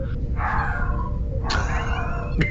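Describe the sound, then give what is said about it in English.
A dog howls in two long, wavering wails, each starting sharply and sliding downward, over a steady background hum with no talking. “The dog sings.”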